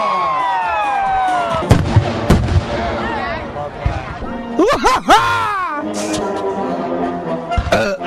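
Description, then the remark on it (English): Sharp fireworks bangs burst out several times over a steady din of excited crowd noise, while a man's high, warbling sing-song voice rises and swoops throughout, singing along to Stars and Stripes Forever. “Look, a lot of people get excited with fireworks.”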